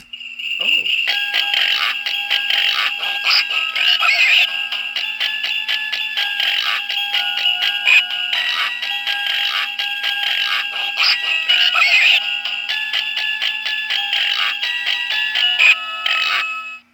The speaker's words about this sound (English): It is the pooping pig, except it's not pooping. Oh! I didn't mean for it to start singing again.